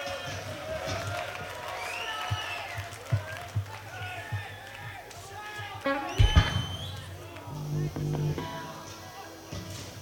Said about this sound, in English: Please give him a great round of applause.